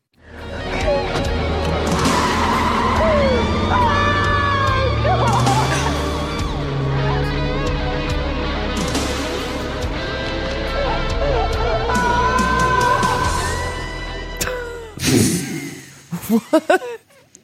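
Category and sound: vehicle, car peeling out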